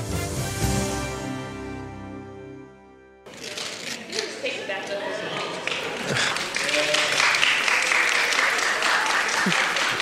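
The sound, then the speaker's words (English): A short musical passage cuts off, and a live audience at a speaking event breaks into steady, sustained applause as the speaker tears money: many hands clapping together in a dense, continuous wash that holds fairly loud until the end. “For those of you that are going to listen to the audio recording of this, I'm tearing money and they're clapping.”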